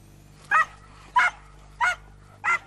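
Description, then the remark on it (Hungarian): Hunting dogs barking in the forests of the Börzsöny around Kemence, Hungary, near the Slovak border, during a hunt for a brown bear that strayed from Slovakia: four sharp, evenly spaced, loud barks about two-thirds of a second apart, with no talking. “Vadászkutyákkal járták a környékbeli erdőket órákon át.”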